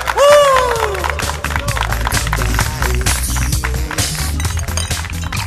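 A crowd applauds with dense, steady clapping that carries on for about five seconds, opening with a loud falling whoop or cheer from someone in the group.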